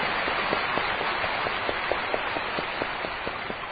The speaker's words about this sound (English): 非常欢迎你来。 So we welcome you. 很多人给你鼓掌了。